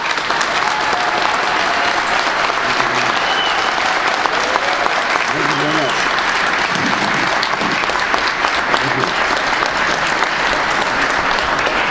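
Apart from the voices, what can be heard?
audience applause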